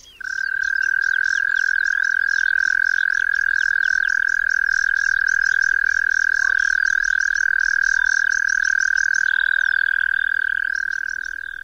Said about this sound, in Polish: Trel ten można pomylić z głosem turkucia podjadka i ropuchy zielonej, które bytują jednak w zupełnie innych środowiskach. Posłuchajmy więc turkucia podjadka.